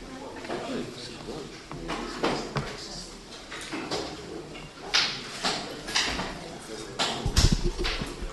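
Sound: door being pushed shut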